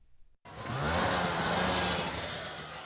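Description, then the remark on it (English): After a brief quiet moment, the snowmobile engines of Donald Manahan's research team, lined up at the edge of the sea on McMurdo Sound along Antarctica's coast, suddenly kick in with a loud, steady buzzing drone and a low rumbling hum underneath, holding an even idle to the end. No one speaks. “Donald Manahan and his research team are lining up their snowmobiles like hot rods before the race.”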